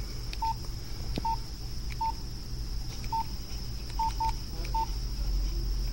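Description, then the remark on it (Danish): Short electronic keypad beeps from a mobile phone, tapped in an irregular rhythm with some quick pairs, about seven tones over a steady background hum; no one speaks. Someone types an SMS text message on a 1990s mobile phone, pressing a key two or three times for each letter. “Det her var sådan her, det lød, når man skrev. Man trykkede 2-3 gange for at få et bogstav”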